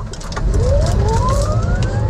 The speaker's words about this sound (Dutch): En dit is dan nog maar de hybride SF90. Als hij met alleen elektrokracht rijdt.